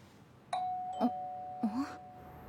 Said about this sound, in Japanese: はあ、ちょっとどういうつもり。何当然みたいにインターホン鳴らしてんのよ。